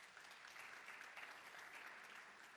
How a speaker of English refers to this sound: Yeah, you can give the Lord a hand clap.